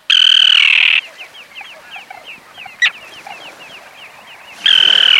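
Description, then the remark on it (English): Common terns call in harsh, grating bursts, one loud at the start and another at the end, with a steady chatter of quieter, squeaky calls from the colony in between. “You're listening to Common Terns.”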